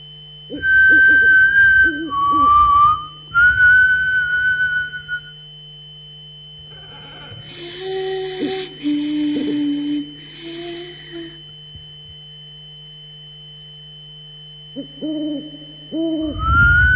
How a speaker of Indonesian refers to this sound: Bersiul.